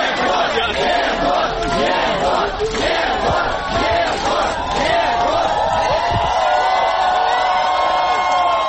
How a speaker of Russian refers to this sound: На выходе из суда ему устроили настоящую овацию.